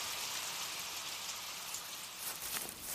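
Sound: rain falling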